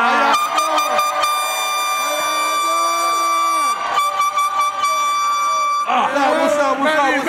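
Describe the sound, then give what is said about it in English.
Loud, sustained horn blasts during a Drink Champs taping hold a steady, buzzing harmonic tone for several seconds, with short breaks between them, and excited voices shouting over the final stretch. “Get my horn right there, dog.”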